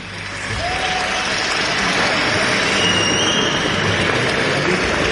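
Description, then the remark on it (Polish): A crowd at a school claps steadily and loudly to welcome guests, the 2017 Polish champions, a dense wash of applause lasting several seconds, with a few faint whistles rising above it. “Witam wszystkich bardzo serdecznie. Przede wszystkim naszych gości. Myślę, że oklaskami.”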